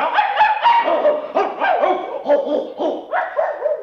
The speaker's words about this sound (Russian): Один было уже прохожий камень взял, и полно братец тут другой ему сказал: собак ты не уймешь от лаю, лишь пуще всю раздразнишь стаю.